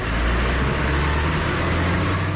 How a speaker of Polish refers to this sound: Poznań jest dużym miastem, więc są hałasy. Czy co takiego? Czy jest wokół nas dużo dźwięków głośnych? No jest dużo. Tramwaje, samochody.